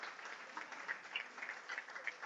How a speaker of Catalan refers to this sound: Tenim moltíssimes seccions en aquest programa a l'Hora de GINAC que ens acompanya cada dos mesos i demanaria un fort aplaudiment per la gent de GINAC que ens ha acompanyat, tot l'equip al complet.